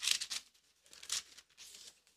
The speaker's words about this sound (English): Now, let's go over here to 2 Corinthians chapter 10. 2 Corinthians chapter 10. I love hearing pages turn. It makes me feel like I'm in old school church.